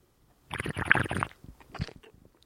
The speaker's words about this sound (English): That deserves another sip of wine.